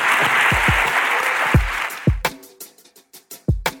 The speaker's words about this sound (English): Please, though, give Professor Yunus a tremendous round of applause.